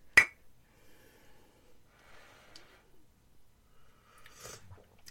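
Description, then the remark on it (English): A single sharp clink of tea cups of blood orange smoky oolong tea tapping together in a toast right at the start, bright, followed by quiet breathy rustling and a soft sip-like noise near the end. “So I am having this delicious blood orange smoky oolong tea. All right. So, cheers. Cheers.”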